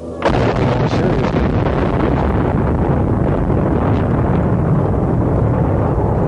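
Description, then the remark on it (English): Charges detonate in a sudden loud blast as a steel bridge over a river, with spans and towers rising 100 feet, is demolished using 125 pounds of explosives on 1,500 tons of steel. A heavy, continuous rumbling roar follows and stays loud for several seconds, with no voices. “but when the charges were fired, the spans and towers rising 100 feet into the air suddenly disappeared in a huge clap of thunder.”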